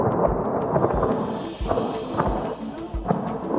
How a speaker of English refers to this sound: The Israeli army says it's conducted airstrikes on military targets in Iran. Explosions have been heard in the capital.